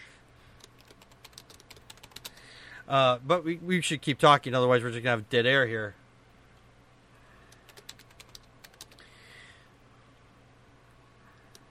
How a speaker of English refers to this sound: I was talking to you, but you fell away and I was trying to type and think at the same time, and I have a hard enough time to tie my shoes and chew bubblegum, so.